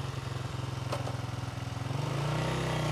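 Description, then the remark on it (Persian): A woman in her second lesson rides a motocross dirt bike on a track; the engine chugs in a rapid, pulsing idle, then the throttle opens and it climbs into a steadier, louder rev near the end. “گازتو بیشتر کن رد شو، از گاز نترس.”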